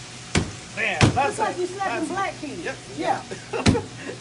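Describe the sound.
Fries are smashed in a pan to make smash fries, with three sharp, heavy smacks, two close together and one after a pause, while people talk between the hits.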